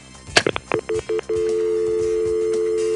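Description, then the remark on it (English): A telephone recall dial tone from a Number One ESS switching system: after a few faint clicks, three short stuttering beeps give way to a steady, continuous tone that holds clearly to the end, with no voices. “In number one ESS, they standardized the recall dial tone so that it sounded like this.”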